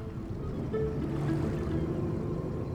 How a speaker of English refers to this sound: A launch. It's a small type of boat.